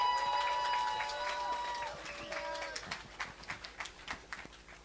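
A crowd applauds in a dense burst of clapping over a brief tonal flourish, then the clapping thins out into scattered, separate claps as it fades.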